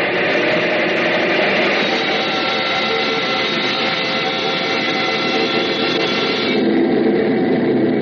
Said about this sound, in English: Well, sure. Bring up number one engine to maximum RPM. Altitude, 30,000 feet.